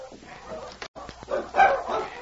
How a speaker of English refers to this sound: Oh, those dogs. What's the matter? There's only one answer. When they bark like that, they are fighting.